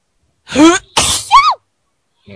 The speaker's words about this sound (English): Sounds like you're about to like cough up a lung, then you sneeze at the same time. That's scary.